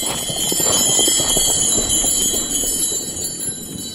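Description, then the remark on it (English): Horse harness bells, which fit on the back pad of the harness, jingle and ring steadily as they are gently shaken. Their bright overlapping tones are sustained for a few seconds alongside a soft rustling clatter. “But they fit on the back pad. You just screw out your turrets where your lines go through.”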